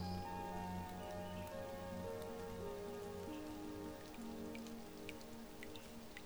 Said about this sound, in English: Do you hear that? The rain. It's started really coming down, hasn't it?